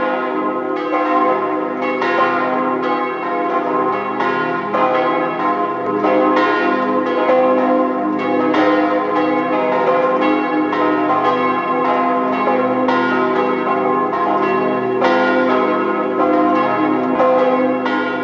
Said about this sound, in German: Es ist 12 Uhr. Sie hören die Glocken der Stadtpfarrkirche St. Hippolyt in Zell am See im Land Salzburg.